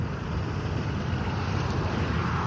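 A drone flying overhead above the Pima County elections center in Tucson, Arizona, gives off a steady, unbroken whirring rush, fairly loud and constant throughout, with heavy low rumble and wind-like hiss and no voices.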